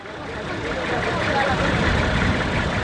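large truck engine idling

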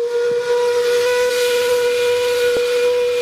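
steamship whistle blowing

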